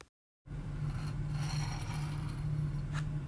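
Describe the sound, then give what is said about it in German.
A key, pushed through a hole in a door, scrapes and slides along on a sheet of paper drawn under the door, a steady rasping after a brief silence, with a small click near the end over a low hum. “ich schiebe ihn durch und du, Amelie, du ziehst ihn danach mit deinem Blatt unter der Tür durch”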